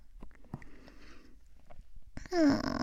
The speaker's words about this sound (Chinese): 不是故意要对你打嗝的吗？喝太多酒，气太足了。